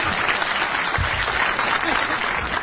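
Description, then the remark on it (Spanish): Steady, dense applause for Lula from a crowd, many hands clapping in a continuous bright wash at even loudness for the whole stretch, with no talking over it. “Aplausos a Lula.”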